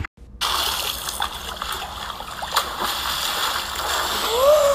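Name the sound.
splash into water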